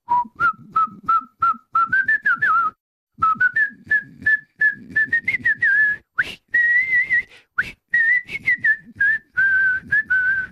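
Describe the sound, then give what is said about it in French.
Someone whistles a short, repetitive little tune, bright clear notes repeating in a steady pattern with brief pauses, accompanied by soft clicks and no talking. “D'ailleurs, quand il en extrayait un numéro, il sifflotait toujours et rituellement le même petit air lancinant.”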